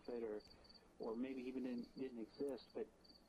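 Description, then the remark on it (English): Crickets chirp in a steady, high-pitched trill in the background while a voice speaks in short bursts over them. “Again, I had to suppress the quality of this particular section because of the crickets of death.”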